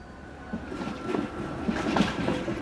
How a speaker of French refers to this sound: Monsieur Promio remarque un tramway à distance qui s'approche de lui.